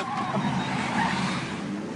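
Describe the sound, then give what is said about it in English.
A Google self-driving car drives with tires squealing and skidding across pavement, a steady loud rush of engine and road noise lasting the full two seconds, with no voices. “a YouTube video from the TED conference last year featuring some very excited testers of Google's self-driving car”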